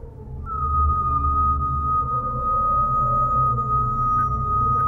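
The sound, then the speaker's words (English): A whistle is blown in one long, steady, piercing note that holds without wavering for several seconds over a low, rumbling background hum. No one speaks. “The sound of the whistle had so fascinated him that he could not help trying it once more, this time more boldly.”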